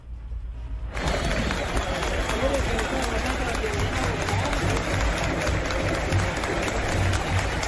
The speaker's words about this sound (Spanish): ¿Estos fueron aplausos, Juanca, en el Atanasio para Adriancho? Fue en un partido contra Medellín y es una total novedad, porque no es fácil que un estadio como el Atanasio aplauda a un jugador de América con la rivalidad que hay entre los clubes.